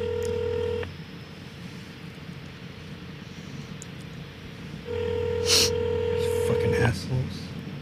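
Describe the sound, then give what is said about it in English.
A phone line rings out through a receiver while calling a Denny's restaurant on South Fig: two steady, buzzy ringback tones about four seconds apart, with a soft hiss of line noise in between. “Pick up the fucking Denny's phone.”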